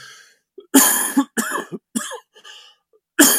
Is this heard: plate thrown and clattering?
no